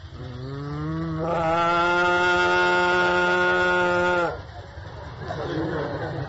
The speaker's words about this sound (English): Sometimes Krishna would call the cows. He would call each cow by its own personal name, and the cows, hearing Krishna speak the name, would respond by mooing very loudly.